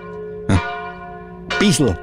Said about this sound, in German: Also je öfter ich die Glocken höre, umso mehr denke ich mir, die muss man doch erkennen, bitte.